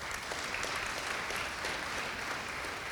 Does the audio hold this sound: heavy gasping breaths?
no